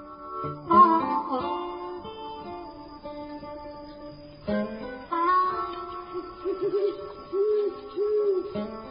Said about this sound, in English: Yes. Definitely an owl, Ghoulie. A clamorous owl that nightly hoots and wonders at our quaint spirits.